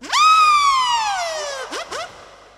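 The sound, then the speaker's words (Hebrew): A person imitates a police car siren with their voice: one long wail that swoops up and slowly falls, then two quick rising whoops. Fairly loud, with no other sounds. “תעשי ניידת, תעשי ניידת.”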